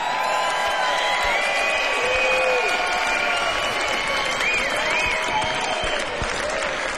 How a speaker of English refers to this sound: Now, dames en heren, met hoe kun je een mooi festival nou beter eindigen dan met zo'n volwassen, mooie, rustige, geweldige, grote, tijdloze artiest. Mag ik nog één vet applaus voor